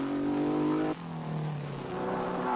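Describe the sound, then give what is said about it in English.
A sports car racing engine roars loudly and steadily, its high whine dropping sharply in pitch partway through as if shifting gears or passing by, then droning on. No one speaks. “His pleasure? The thrills of a sports car race.”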